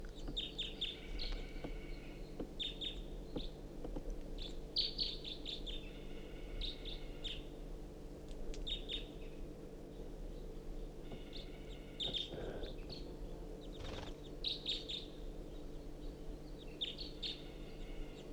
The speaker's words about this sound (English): There is a crossbill, I think one bird, foraging in the ponderosa pine directly above the truck.